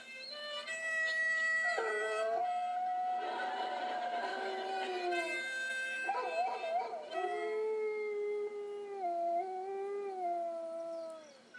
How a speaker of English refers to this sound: What nonsense. It's obvious why the poor dogs were howling there for having to put up with that awful music while stuck in front of a camera.